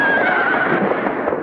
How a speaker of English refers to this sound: When the men look out, they see three guys galloping their horses down Main Street and firing their pistols into the air.